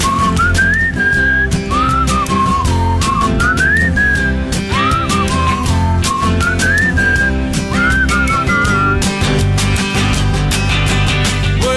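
A person whistles a lilting melody with bending, sliding notes, carried over a steady band accompaniment with drums and bass throughout; no one speaks.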